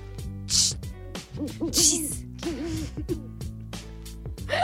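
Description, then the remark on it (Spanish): A voice imitates an owl with a series of wavering, hooting calls, mixed with breathy hisses over a steady low hum, moderately loud. “Un gato concertista toca licks. Una lechuza va y le dice...”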